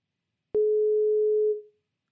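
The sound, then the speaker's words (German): A telephone busy tone sounds after the phone line drops mid-call: a single steady, mid-pitched beep lasting about a second, starting with an abrupt click and tapering off, with silence around it and no voices. “Unsere Telefonleitung ist weg.”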